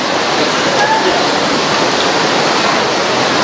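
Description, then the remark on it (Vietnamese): Heavy rain pours down in a dense, unbroken hiss, loud, holding steady from start to finish with no pauses or individual drops standing out; the rain comes ahead of a storm approaching Vietnam. “À, thưa anh chị em, cơn mưa đang đổ xuống và báo trước đây là cơn bão, sắp đổ cơn bão số 13 hay 14 gì đó đổ vào Việt Nam.”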